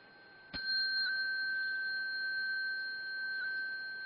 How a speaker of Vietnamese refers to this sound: Nghe tiếng khánh, nhóm người lên, hai đầu gối lên trước, bàn tay trái dược lại để ngay tim.